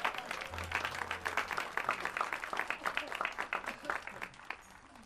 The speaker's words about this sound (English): Round of applause for all those people, yeah.